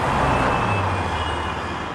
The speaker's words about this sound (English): we wanted you to imagine a bustling crossroads and you're right at the intersection driving your car.